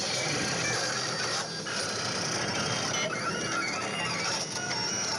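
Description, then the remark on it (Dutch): A machine whirs steadily as its small gears turn, a dense mechanical churn with thin, high-pitched computer-like beeps and squeaky tones that rise and fall over it throughout; a plastic wire is attached to it. “Het piept een beetje, het lijkt wel een computer. Het draait allemaal rond. Een plastic draad zit eraan. Radertjes.”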